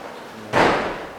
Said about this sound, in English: Now, someone wants to get in the door here. Okay, she shut the outer door, that's good.